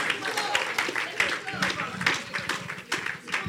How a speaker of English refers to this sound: Clap for the Lord Jesus.